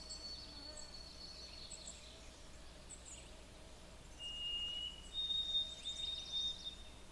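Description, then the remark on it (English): A white-throated sparrow perched on a power wire sings a short, abbreviated song: two clear, pure whistled notes, the second higher and held longer, fairly close against a faint background hum of insects. “Kind of an abbreviated song, but a song all the same.”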